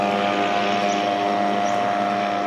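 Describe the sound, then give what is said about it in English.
A boat engine of Chinese gunboats on the Mekong River, at a town where Laos, Myanmar and Thailand meet, drones steadily and loudly, a constant humming motor with a slightly rough texture and no pauses or changes in pitch, with no voices. “Pretty much every month for the past few years, a trio of Chinese gunboats arrives here from the Chinese port of Guanle, 160 miles upriver.”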